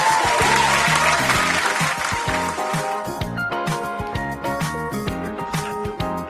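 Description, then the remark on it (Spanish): Loud, dense clapping by a man applauding himself fills the first three seconds, then fades as an upbeat music track with a steady, punchy beat takes over. No one speaks. “Y vuelve el aplauso. ¿Qué aplauso? Bueno. Este que me doy yo a mí mismo.”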